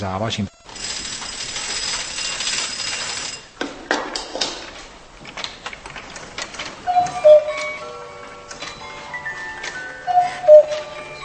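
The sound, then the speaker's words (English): The clockwork mechanism of a mechanical nativity scene clatters and whirs, with ratcheting clicks and gear noise, brief pauses, and a few short tonal notes chiming in during the second half. One single mechanism, operated by one weight, drives 142 figures performing 350 different movements. “All the movements are managed by one single mechanism, which is operated by one weight.”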